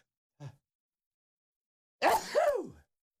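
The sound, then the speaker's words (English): A single loud sneeze made on the air during a broadcast: a quick sharp intake of breath, a short pause, then an explosive, noisy burst that trails off with a voiced tail. No talking. “So I sneeze on the air.”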